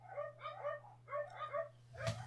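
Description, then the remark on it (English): A neighbor's dog at the fence and other dogs yap and bark back and forth in a quick, rhythmic string of about six sharp, high-pitched calls over a steady low hum, with no talking. “It's a neighbor's dog. It gets close to the fence, they're yapping, and my dogs start going at it.”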